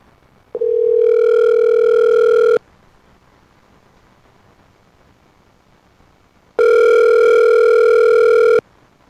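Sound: telephone dial tone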